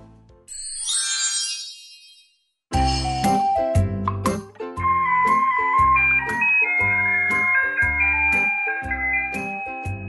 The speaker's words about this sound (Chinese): 晚上，窗外传来垃圾车的音乐声，小乐好兴奋。